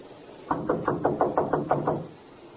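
knocking on a door

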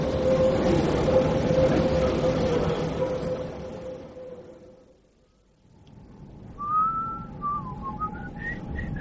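train departing with whistle

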